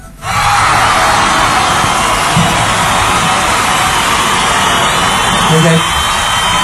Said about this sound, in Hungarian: Ez kezd az a hülye tévéműsorokhoz hasonlítani, ahol mindig kiabál a közönség, mi?